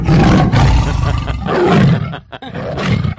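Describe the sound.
A man's voice in a voice note imitates the tiger roar of Falcao with loud, rumbling growls in two long bursts, dipping briefly before a final rougher snarl, strained.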